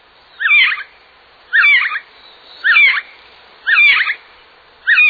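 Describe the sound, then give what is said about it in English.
Five gray jay (whiskey jack) calls repeat at an even pace, about one per second, each a short, clear, fairly loud burst of whistled and chattering notes with brief pauses between, no voices present. “The bird became Whiskey Jack, nickname for the gray jay.”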